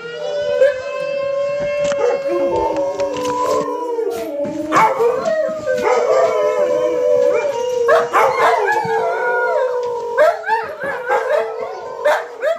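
Several dogs howl together in a long, overlapping chorus, their wavering cries rising and falling, broken by sharper yips and barks near the end. The sound is close and loud, with no talking.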